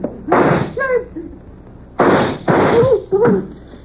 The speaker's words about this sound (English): I think that did it. Come on, let's try it. Huh? Try what? The door, you idiot. I fired at the lock.